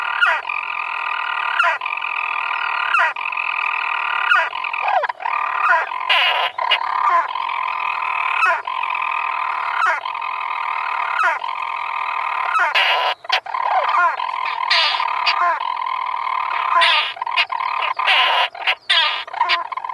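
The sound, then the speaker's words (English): A storm petrel chirrs from a small crevice between rocks in a boulder field in mid-afternoon sunshine, a long, unbroken purring churr, steady and fairly loud, punctuated every few seconds by short hiccup-like breaks and clicks, with no voices. “And, as we climb, quite unexpectedly, in the mid-afternoon sunshine, a storm petrel chirrs from a small crevice between rocks in a boulder field.”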